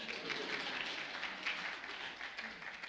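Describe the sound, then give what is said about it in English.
An audience applauds the speaker's wife of 48 years, a dense wash of many hands clapping at a fairly even level throughout, with no voices standing out. “Yeah, you can clap.”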